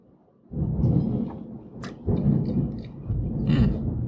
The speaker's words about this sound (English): Wow. More thunder, and I can hear it raining outside, raining on the roof.